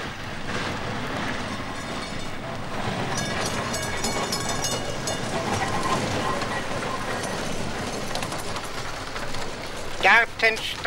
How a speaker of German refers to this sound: Herr Schaffner, hören Sie mal, das ist doch die Gürtelbahn. Ja. Die Gürtelbahn, da müssen wir doch raus jetzt. Ja, das kommt drauf an, wo Sie hinwollen. Das ist natürlich die Gürtelbahn.